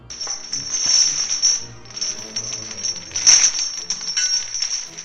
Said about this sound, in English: Could you hear those chains rattling?